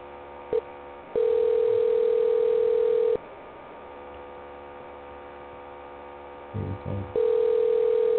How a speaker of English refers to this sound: Oh, it's ringing. I don't know if you guys can hear this ringing. That's really interesting. Can you guys hear this ringing?